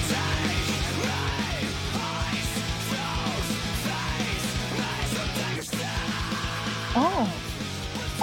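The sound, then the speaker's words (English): A loud, angry scream, sustained and raw, pushing on almost without pause for several seconds, with a brief break before rising, strained cries near the end. “Well, you hear the anger there, and it's, I think that's kind of the scream that we're talking about here.”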